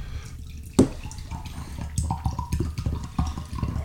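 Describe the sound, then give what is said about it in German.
A sharp clink, then still water pours steadily into a glass for about three seconds, a gurgling splash whose pitch rises as the glass fills. No one speaks. “Ich schenke uns mal ein bisschen Stilles ein.”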